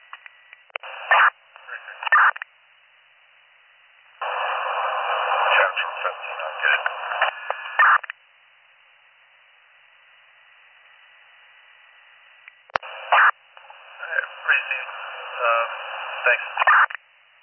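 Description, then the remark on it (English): Crackly radio transmissions heard while a police dispatcher calls back an abandoned 911 hang-up at 9 Cherry Street come in three bursts of tinny, hissing static mixed with garbled voice, separated by stretches of near-silence, with a sharp click just before the last burst. “15 upon callback, I was just off static.”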